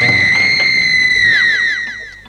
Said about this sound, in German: Und die. Und die, und die, und die. Ihr seht, eine schreiende Uhr ist nichts Besonderes für mich.